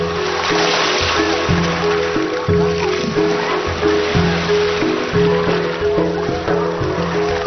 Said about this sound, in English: The rivers which lie at the heart of Dai life and culture flow from the distant mountains of Tibet, southwards through central Yunnan in great parallel gorges.